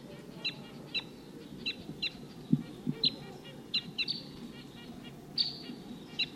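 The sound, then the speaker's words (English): A flock of wild birds giving a scattered series of short, high-pitched 'tooping' flight calls, a dozen or so brief chips spaced irregularly over a steady low rumble, with a couple of soft low thumps midway. “Sounds like there's another flock of the same call type around here somewhere.”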